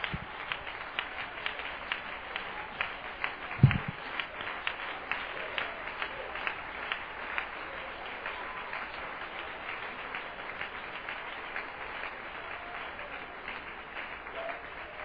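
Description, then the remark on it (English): An audience claps steadily in praise to God, a dense, continuous wash of applause lasting several seconds, even in loudness, with a brief low thump early on and no clear talking. “Let's give Him a hand clap of praise once again.”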